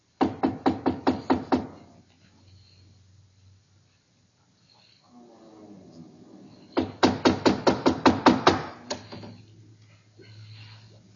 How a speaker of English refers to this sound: Here, door. We knock? First.